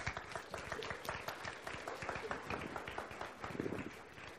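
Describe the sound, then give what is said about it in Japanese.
An audience at Yokohama Grace Bible Church claps for God after worship, a steady, dense patter of many hands, sustained applause at an even level with no one speaking over it. “もう一度神様に拍手しましょう。”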